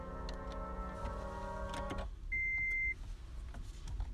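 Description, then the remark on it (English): Someone getting out of a car: a droning whine from the vehicle cuts off, a short electronic chime sounds, then soft shuffling movement follows. No one speaks. “Okay, just getting out of the car here.”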